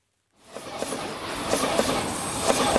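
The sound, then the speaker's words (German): After a brief silence, a train rumbles along the tracks on the SBB Gotthard line between Erstfeld and Amsteg, Switzerland, a steady loud roar broken by rhythmic clacks as the wheels pass over rail joints. “Damit der Zug fahren kann, braucht es unter anderem Schotter, Schienen und Schwellen.”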